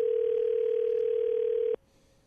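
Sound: telephone dial tone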